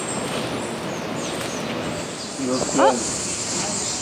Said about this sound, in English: You hear that buzzing? Yep. Yeah. That's a cicada. Yep. That's a cicada.